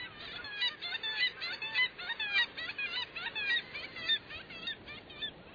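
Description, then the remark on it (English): A dense chorus of black-legged kittiwake calls, many nasal, rising cries overlapping continuously with no pauses, heard alone without any voices. “In winter, black-legged kittiwakes can be found along the west coast from southern Alaska to Baja California, and along the east coast from Labrador to Florida.”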